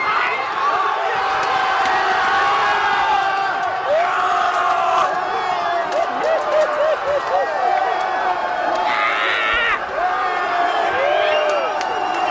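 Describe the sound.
Union football fans cheer and chant loudly in the Abseitsfalle pub in Berlin-Köpenick, many voices shouting and singing together in a dense, continuous roar with rising whoops throughout.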